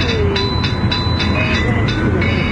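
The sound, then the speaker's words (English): A child's toy plays a repetitive built-in tune with built-in rhythm inside a car, a steady run of bright, evenly spaced pulses with thin high tones over a loud, rumbling background noise. “You know, it has built-in rhythm. Yes. And built-in tunes.”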